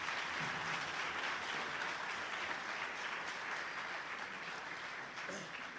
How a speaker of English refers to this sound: And Shabir, I want to say thank you so much for visiting our country. It is such a privilege to have you here. And let's give him a warm South African round of applause.